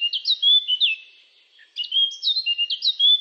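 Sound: common chaffinch singing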